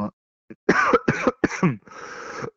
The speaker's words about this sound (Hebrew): עכשיו, בלי קשר, אני נורא נורא משתעל מהשפעת שלי.